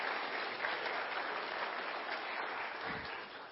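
An audience at a church claps steadily for a few seconds, a dense, even wash of many hands with no pauses, holding at a fairly loud level throughout.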